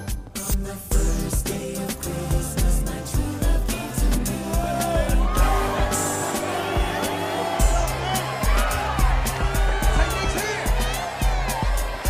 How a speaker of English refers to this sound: Nick waves to an adoring crowd.